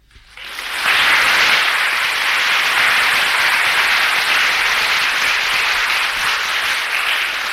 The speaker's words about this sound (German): Wir können dich jetzt nicht alle Juhu schreien, aber wenn wir einfach in dieser ehrwürdigen Kirchenhalle einmal Beifall geben und sie auf diese Weise grüßen, dann schicken wir ihr das Band mit einem herzlichen Gruß.